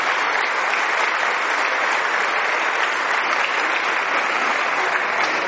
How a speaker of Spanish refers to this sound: Me le da un aplauso a esa gente, por favor. Esos son los nuevos misioneros.